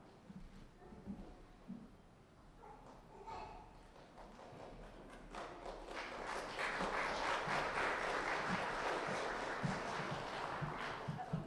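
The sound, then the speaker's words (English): An audience clapping for performers being introduced at a Children's Day event in Lebanon, Berks County: scattered claps swell into steady, dense applause that holds loud through the second half, with faint voices and thumps underneath early on. “Clapping and we haven't done anything.”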